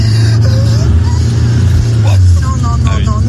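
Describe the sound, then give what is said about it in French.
A steady, loud low rumble of a car engine on the road, droning continuously throughout, with faint muffled voices and brief chirpy sounds drifting over it. “Non, il y a une voiture qui arrive en face, sans déconner.”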